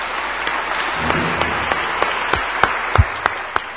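Steady applause from an audience welcoming a speaker, a dense wash of many hands clapping with a few sharper, louder claps standing out, with no voices over it.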